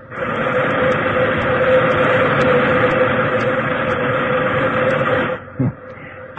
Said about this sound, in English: All right, try a blast of steam.